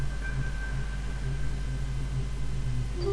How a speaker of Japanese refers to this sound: そう叫んだ瞬間だった。 チリーン とノイズが混じったような、何か引っかかるような音を、その不鮮明さがなお寒気を誘った。